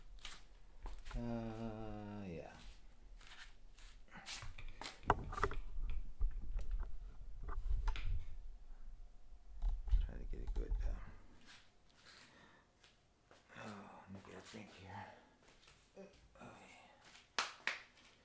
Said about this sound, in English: So there's some kind of delivery truck, probably a paper person. Delivering something every morning. So probably the paper person, I don't know. Anyway, so he makes his little rounds up and down my street.